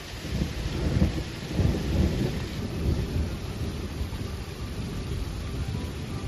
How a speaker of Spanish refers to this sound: Mira qué bonita la tormenta de fondo, cómo lo pasaron en Navalcarnero.